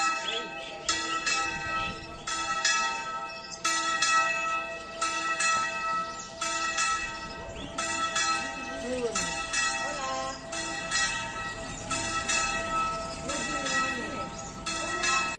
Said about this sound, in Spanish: se han podido escuchar por muchos rincones de España y en la misma carrera de San Jerónimo el repique de las campanas que simboliza el latido del corazón de las gentes de los territorios despoblados y abandonados por las instituciones.